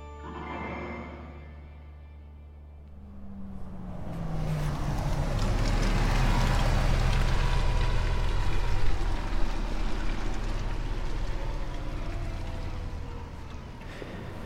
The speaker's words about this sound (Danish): Der kom den sidste bus, må det simpelthen være, til Lohals. Den var tom. Den vendte bare lige hernede på havnen og kørte tilbage igen. Jeg er i Lohals på det nordlige Langeland, som er en lille bitte by.